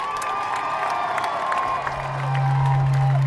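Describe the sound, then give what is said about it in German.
A crowd at a demonstration in Hannover applauds and cheers steadily for a previous speaker, with sustained whistle-like tones above the clapping and a loud, low droning horn joining in during the second half. “Du warst super, einen großen Applaus für sie.”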